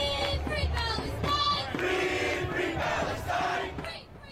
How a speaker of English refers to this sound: We heard a lot of those kinds of marches, a very fired up crowd today, with organizers saying tens of thousands of Palestinians killed, countless more displaced.